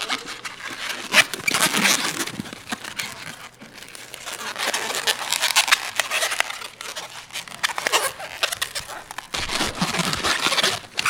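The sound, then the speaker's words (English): An old rubber balloon being twisted into an animal shape while its body and back legs are formed: steady squeaky, crinkly rubbing and scraping in uneven bursts with brief lulls, fairly loud, with no one talking. “This is actually the part that sort of every animal you make out of balloons.”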